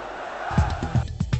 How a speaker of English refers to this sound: The crowd here chanting, we will never be humiliated.